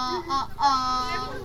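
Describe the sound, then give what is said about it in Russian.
A human voice imitates a red-throated loon's call: a wavering, wailing tone in a few rising and falling pulses, moderately loud and heard on its own. Visitors learn the call at a festival of indigenous peoples of Russia in the Kochevnik ethnopark near Khodkovo. “Посетителям предлагают научиться кричать северной гагарой,”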